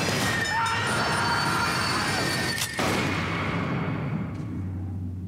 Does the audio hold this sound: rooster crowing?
no